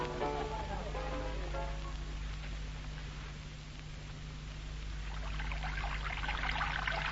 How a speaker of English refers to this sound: should do something about his hot water system. It's stone cold. You have to let it run.